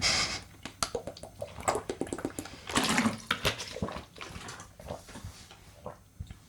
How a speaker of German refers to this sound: Aber ich trinke jetzt erstmal einen Schluck. Prost auf euch.